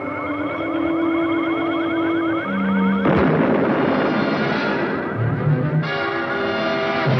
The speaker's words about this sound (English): The crawlercopter's exploded. A flash. See that? What was it? I don't know. The computer shows a pressure wave. Apparently an explosion. Distance, 120 miles.